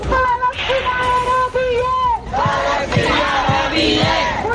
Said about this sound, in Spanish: Y en Barcelona estos son los gritos, la petición de los universitarios que a esta hora salen a la calle para pedir, entre otras cosas, la ruptura de relaciones comerciales y políticas con Israel, un no a la guerra.